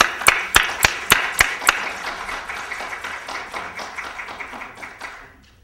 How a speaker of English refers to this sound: we owe her a huge round of applause for all the work she's put in to make this conference happen.